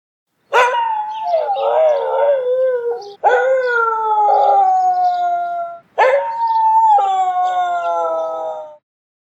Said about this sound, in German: Manche Hunde heulen aber auch, wenn sie gewisse Musikinstrumente oder Kirchenglocken hören. Heulen sie dann, weil sie das Geräusch nicht mögen oder weil sie mitsingen wollen? Das weiß man nicht so genau. Ich spiele es noch einmal vor.